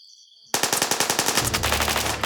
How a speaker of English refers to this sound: He pointed his gun at the dark woods and started shooting. Within seconds, bullets fired back at him from the woods.